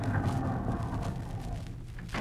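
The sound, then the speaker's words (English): A chauffeur-driven car arrives at the NBC studio: its low engine rumble rolls in and settles as the vehicle comes to a stop, a steady deep hum with a faint sharper noise at the very end. “Say, Jack, look at that beautiful car driving in.”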